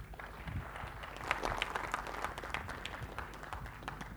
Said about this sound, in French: Edouard Ferlet, vous pouvez l'applaudir